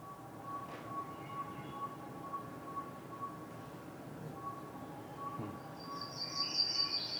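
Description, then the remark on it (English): A northern saw-whet owl in Alaska gives a steady run of soft, flute-like toots at an even pace, fairly faint over a hissy outdoor background, with thin high chirps near the end. “This is a northern saw-whet owl from Alaska. It has a really pretty flute-like tone.”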